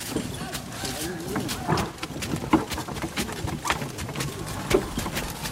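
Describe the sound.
Horses carrying several riders walk at an unhurried pace while out hunting game, their hooves thudding and clopping on the ground in an uneven, steady rhythm, with soft voices and outdoor ambience murmuring underneath.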